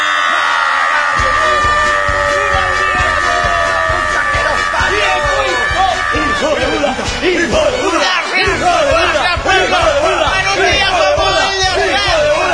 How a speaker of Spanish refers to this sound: conmovido por el aplauso del pueblo cubano que me recogió de sus entrañas y me llevó al altar de la gloria más alto